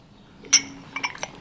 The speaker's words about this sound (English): All right, I'll let you both just lift up the lid and sniff that.